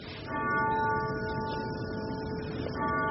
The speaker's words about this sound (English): She knows to wait for the grandfather clock to finish ringing. Edith Wilson, whose clock it was, grew up in Virginia.